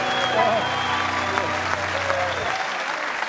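An audience claps for Stephen Fry after his singing, many clapping along, in a dense, steady wash of applause that holds a constant loudness throughout, with a low sustained hum underneath that cuts out shortly before the end.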